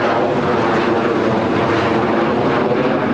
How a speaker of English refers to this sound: Yeah, I live by the airport, in case you didn't hear that airplane going by.